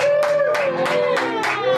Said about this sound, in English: Let's have a big round of applause, a big Eagle Rock welcome for Maria Bamford.